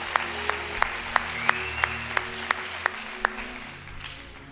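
An audience claps together in a steady, even rhythm, about a dozen sharp, crisp claps at a quick regular pace, with a softer wash of scattered clapping and a low hum underneath.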